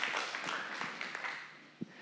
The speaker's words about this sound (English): We should clap, I think